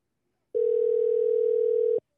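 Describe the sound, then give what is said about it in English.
A single steady electronic telephone ring tone sounds for about a second and a half, clear, as if heard through a phone on an outgoing call, with silence before and after. “He ain't gonna answer you from your phone number”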